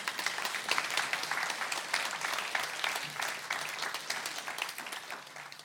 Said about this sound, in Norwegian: Takk for en nydelig lovsang. Kan vi ikke gi deg en god applaus?